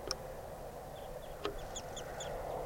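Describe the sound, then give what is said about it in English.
Circling wild birds going down to decoys give a series of short, high chirping calls in quick succession, fairly faint over a steady background hiss and rumble, with a couple of sharp clicks early on. “Circling wild birds.”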